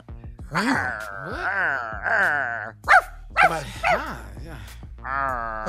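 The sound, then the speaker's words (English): A human voice imitates a dog: drawn-out, whining growls give way to a few short, sharp barks, then another sustained vocal moan, all fairly loud. “Would you rather, guys, would you rather growl when you're hungry or bark when you're full?”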